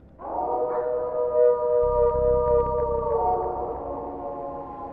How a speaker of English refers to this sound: As we continued our hiking back down the trail to our camping spot, we started hearing these howls in the distance.